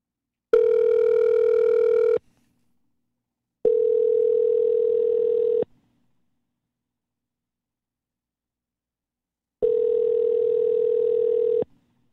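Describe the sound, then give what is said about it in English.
An outgoing call's ringback tone, from a quick call to Rich Barris placed during a show, sounds three times: steady two-second electronic purrs at a fixed mid pitch separated by gaps of silence, with no one speaking. “Rich Barris just said he can do a quick call. Let's give him a buzz.”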